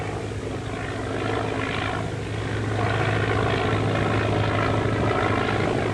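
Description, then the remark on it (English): A propeller airplane drones overhead, its steady engine hum and buzzing prop filling the air continuously and growing slightly louder as it passes, with no voices. “What's that flying around up there now?”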